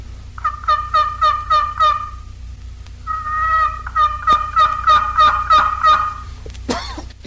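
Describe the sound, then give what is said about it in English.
High, raspy yelps of an old turkey hen made on a box call: a run of about six evenly spaced notes, a short pause, then a longer run of eight or nine, loud over a low steady hum. “Next are the higher-pitched yelps of the old hen made on the box collar.”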